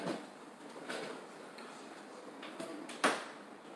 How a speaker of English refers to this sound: Maybe just close the door. Just close. It's not closed. It's not closed.